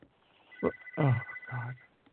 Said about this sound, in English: sorry about that. The phone is ringing. Just ignore that phone in the corner.